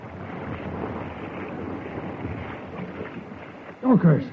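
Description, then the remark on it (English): A steady, dense roar of storm wind and rushing floodwater fills the whole stretch as, on a tempestuous night, the North Fork leaps over its banks and sweeps into a sheltered valley, with a brief loud voice-like cry breaking through near the end. “And then, on one tempestuous night, the North Fork suddenly leaped over its banks and swept into the sheltered valley.”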